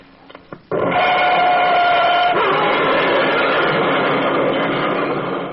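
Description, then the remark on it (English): A car crash sound effect: a few faint knocks, then a sudden loud burst of crunching, grinding noise that stays loud for several seconds, with a thin whine sounding through its first part. “There'll be horrible crashes. Sounds like this.”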